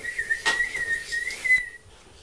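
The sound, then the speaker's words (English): An old, small blue wind-up toy whistle sounds one steady, slightly wavering high tone for about a second and a half, with a brief scratchy burst near the start, then cuts off. No one speaks. “It's like literally a whistle.”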